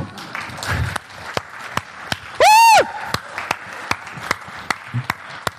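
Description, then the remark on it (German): Scattered, fairly steady clapping, as if from a small gathering, comes from a church audience meeting for morning worship and runs throughout without voices. Midway, a loud whistle briefly rises and falls in pitch over the claps. “Ich finde, das hat einen Applaus verdient.”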